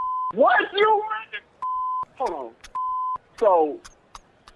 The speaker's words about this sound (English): Okay, if you pranking me, what's up with the airport stuff in the back then? Y'all at the airport?